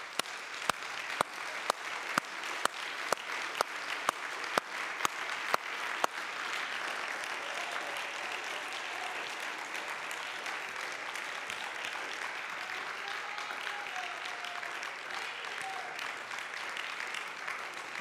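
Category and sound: crowd, audience clapping hands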